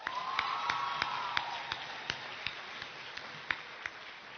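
An audience applauding from a distance, a soft wash of clapping with sharper individual claps landing at a steady, almost rhythmic beat, plus a faint drawn-out cheer early on.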